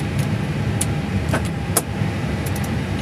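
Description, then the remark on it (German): An airliner jet engine spooling up after start, with fuel added and ignited after 30 seconds of motoring, gives a steady, dense low roar with a broad rushing hiss, broken by a few sharp clicks and brief higher-pitched ticks, and no voices. “Wieder 30 Sekunden Motoring, jetzt kommt Sprit dazu, wird gezündet, jetzt läuft der Motor langsam hoch.”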